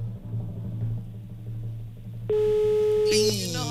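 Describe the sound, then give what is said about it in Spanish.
The fourth long, steady pulse of a telephone ringback tone for an unanswered call, with one ring left, loud and clear, sounding after a stretch of low background hum and ending as another sound briefly cuts in. “Cuarto tono, Sergio, nos queda uno.”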